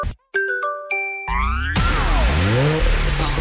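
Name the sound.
car engine revving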